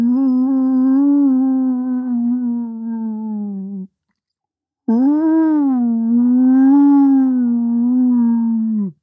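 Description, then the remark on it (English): A voice imitates wind whistling through the single-pane glass of an old window frame in an old house: two long, loud howling notes with a gentle wavering pitch, separated by a second of silence. “So some people who've lived in an old house with single frame glass might know this sound and the way that the wind can whistle through the glass on an old window frame.”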